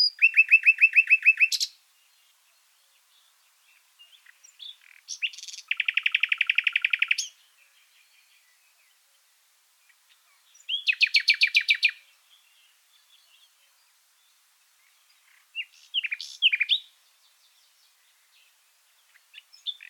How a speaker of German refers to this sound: Jetzt haben wir die Nachtigall gehört. Ihr habt es hoffentlich auch gehört. Sie hat so ganz typische Pfeiftöne und es gibt dann noch ein paar Pfeiftöne, die gedreht sind. Das ist wohl etwas sehr Typisches und Ungewöhnliches für die Nachtigall.